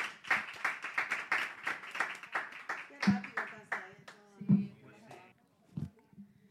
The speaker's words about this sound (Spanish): Nada, muchísimas gracias, chicos. Un aplauso gracias, para ellos.